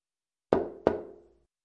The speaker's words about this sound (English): Isn't that somebody knocking on a door? Yes, this sound is also expressed as トントン